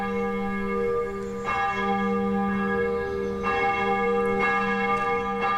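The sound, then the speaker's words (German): Church bells of the Dietrich-Bonhoeffer-Kirche in Junkersdorf, western Cologne, ring steadily on a Sunday morning in spring, calling to the service. Several strikes overlap in a rich, sustained peal with long humming overtones. No voices, just the continuous clangor of the bells. “Die Glocken der Dietrich-Bonhoeffer-Kirche rufen zum Gottesdienst.”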